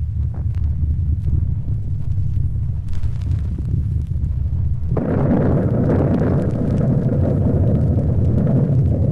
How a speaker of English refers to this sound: Let's listen to a recording from our first program of the first atomic bomb at Alamogordo.